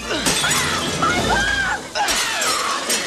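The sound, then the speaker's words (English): A glass display case is smashed with a plaque stand to get a spell book: a loud crash, followed later by a second burst of shattering glass, while excited voices shout over the commotion. “Max raises a plaque stand and smashes the glass case.”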